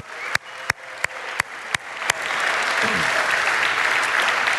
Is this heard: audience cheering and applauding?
yes